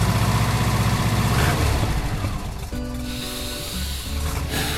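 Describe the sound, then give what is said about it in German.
A car engine drones steadily as the vehicle drives from the Netherlands to the Diemelsee, a five-hour trip, with a low rumbling hum and a brief rise in pitch partway through, no voices over it. “Also setzen sich Claudia den Boer und Dennis Lotte ins Auto und düsten zu uns an den Diemelsee.”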